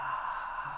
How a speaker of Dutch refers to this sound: Dan adem eerst uit op een hoorbare H, die klinkt zo.